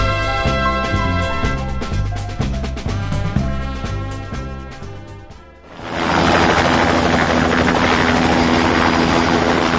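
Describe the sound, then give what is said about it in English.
A rescue helicopter of the air rescue service: its rotor thumps rhythmically over a droning engine, then the sound swells into a loud, steady, continuous roar of turbine and rushing wind. “The rescuer is carrying a radio with which he keeps contact with the helicopter.”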